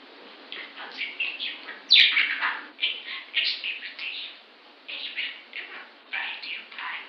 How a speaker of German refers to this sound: Ich hatte ja noch nie einen Vogel. Sie hat noch nie das ist mein erster Vogel.